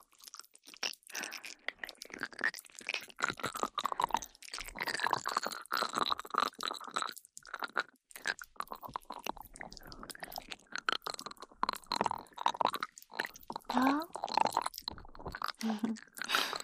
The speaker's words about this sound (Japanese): 炭酸泡とスライムをサンドイッチした音、パチパチってすごい音でしょ。